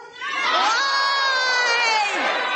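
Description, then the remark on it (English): A large rally crowd shouts back in unison in response to the question of what Trump did, a loud sustained roar of many voices with some high-pitched yells mixed in, lasting a couple of seconds before tapering off. “And let me ask the crowd, what did Trump do?”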